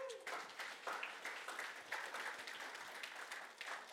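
A crowd applauds steadily for a few seconds, a dense wash of many hands clapping with a few louder bursts and faint cheers mixed in.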